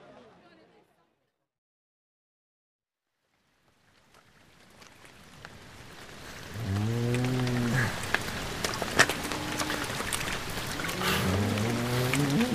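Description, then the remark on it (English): After a brief quiet moment, a steady hiss of falling rain swells in, scattered with sharp droplet ticks, while muffled, low voice-like tones rise and fall over it. “I can't get any wetter.”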